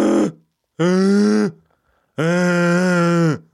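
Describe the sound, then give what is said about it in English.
A person imitates a dragon snoring with three loud, drawn-out rasping growls, each rising and falling like a heavy breath, with short pauses between. “Yeah, that was my impression of a dragon snoring.”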